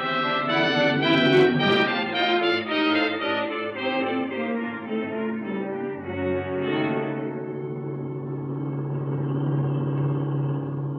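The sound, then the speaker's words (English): A black 1941 Plymouth sedan with Pennsylvania plates, driving in Ohio: its engine hums loudly and steadily, the pitch sliding lower over several seconds before settling into a constant low rumble as the car keeps rolling along. No one speaks. “Okay, here's a car. Black Plymouth sedan, 1941, Pennsylvania license number.”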